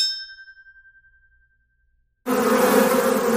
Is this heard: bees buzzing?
yes